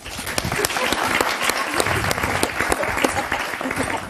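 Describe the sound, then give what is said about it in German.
A live crowd at a live show claps steadily and densely for about four seconds, a sustained wash of many hands with scattered sharper claps standing out. “Alle, die queer sind, Applaus!”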